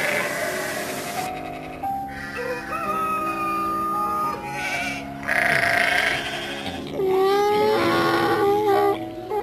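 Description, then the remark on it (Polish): Several Whiteface Woodland sheep bleat in wavering, repeated calls, fairly loud, on a city farm near Canary Wharf, with other farmyard animal noises and a steady background murmur running underneath. “Opiekujemy się tutaj zwierzętami, takimi jak irlandzkie krowy rasy Irish Mild, świnie rasy Tamworth czy owce rasy Whiteface Woodland”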